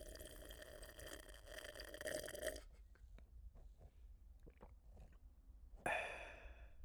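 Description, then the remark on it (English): A drawn-out slurping sip of a liquid, recorded about 7 inches from the drinker's face, lasting a couple of seconds, followed by quiet wet swallowing clicks and gulps, then a short satisfied breathy "ah" at the end. “That was a perfect sip, swallow, ah.”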